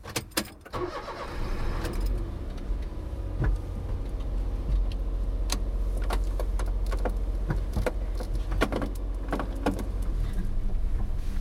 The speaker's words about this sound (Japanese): さあ、それでは早速エンジンをかけて行ってみたいと思います。